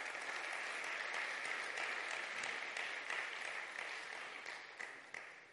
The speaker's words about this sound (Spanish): Dar un aplauso al Rey.